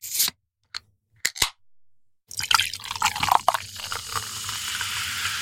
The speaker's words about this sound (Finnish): Että ehkä mekin voitaisiin nyt sitten kaataa nämä meidän lasit ainakin puoliksi täyteen. Uutta Somerspyytä tietenkin. Meillä on tänään maistelussa Somerspyyn kesäuutuus Apple Light, eli eiköhän kaadeta tästä vähän lasiin. Anna palaa.